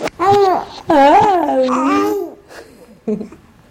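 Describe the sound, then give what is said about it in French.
An infant babbles in a few long, sing-song vocal runs that rise and fall in pitch during an exchange with its mother, then goes quiet briefly before one short final sound. “Elle est en train de décrypter un échange entre un nourrisson et sa mère.”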